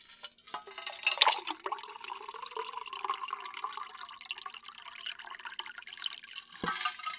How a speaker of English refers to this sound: And I'm just going to get you some water. Some nice spring water. Ice cold.